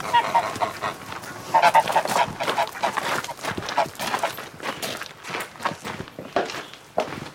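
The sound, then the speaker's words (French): Geese honk repeatedly in a farmyard where hens and ducks are also kept, loud, their harsh calls overlapping with quieter clucks and the shuffle of footsteps on the ground. “Des poules, des canards, des oies.”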